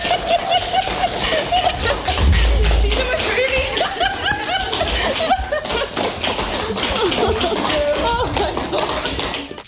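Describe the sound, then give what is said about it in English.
A sustained round of applause for one of Highland Radio's 2025 community heroes, dense and steady for the full stretch, with laughter and cheerful voices mixed in underneath. “A big round of applause.”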